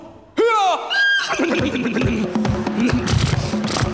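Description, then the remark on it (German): A voice imitates a coach horse hurrying, letting out a loud, descending whinny followed by a second shorter neigh, then breaks into rapid, rhythmic vocal sputtering and snorting sounds. “Und die Pferde beeilen sich.”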